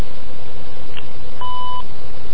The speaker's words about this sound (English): If you prefer to have someone contact you, after the tone, please leave your name and phone number. Your call will be returned soon.